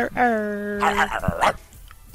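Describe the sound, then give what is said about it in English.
A male player imitates a dog to celebrate a hit, letting out a long, drawn-out howling bark followed by a couple of shorter, rougher barks, loud. “the better the hit you have, the deeper you can get with the bark”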